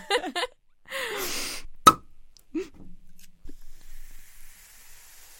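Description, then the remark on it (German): A champagne bottle is opened with a sharp pop after a brief hiss, then the champagne is poured with a soft, steady fizzing that fades on. No one speaks. “Hast du Lust auf ein bisschen Champagner?”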